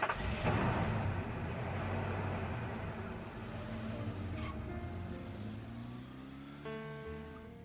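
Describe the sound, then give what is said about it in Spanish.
A car engine turns over and settles into a steady rumble, then climbs in pitch as the car pulls away and accelerates, taking two women to a clinic; loud throughout with no talking. “Vamos, sube el carro.”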